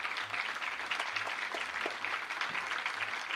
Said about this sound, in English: How many of you out there are volunteers? If you're out there, please stand up and let us give you an applause, because you deserve all the hard work.